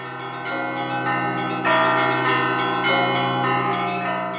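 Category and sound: signal or alarm, church bells ringing joyfully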